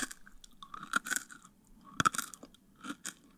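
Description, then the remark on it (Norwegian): Close-up chewing with crisp, crunchy bites in uneven bursts, loud and right at the microphone, with wet mouth sounds between crunches and no talking. “Skal jeg tygge det ferdig litt sånn vekk fra mikrofonen?”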